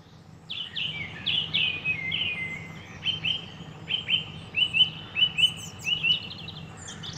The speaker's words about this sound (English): Good morning, and I'm here in Coomer Stud, home of the horse champions, and let's hope you can hear the birds here this morning here in Coomer Stud in Feddert, County Tipperary.